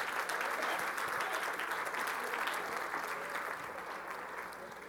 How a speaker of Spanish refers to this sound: Denle un aplauso al Señor mientras yo tomo.